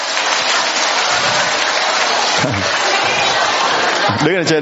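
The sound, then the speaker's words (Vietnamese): A crowd breaks into steady, loud applause in honour of a group of people, a dense wash of clapping that fills the whole stretch, with a few shouts and cheers rising over it near the middle and end. “Chúng ta cho một tràng pháo tay hoan hô tất cả những người này.”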